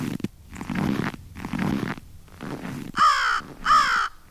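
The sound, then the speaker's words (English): A crow gives two loud, harsh caws near the end, after a few seconds of rough, rhythmic scraping or rustling bursts. No one speaks. “A crow will walk, some might say swagger, across a snowy parking lot, leaving right and left steps much as a walking human would.”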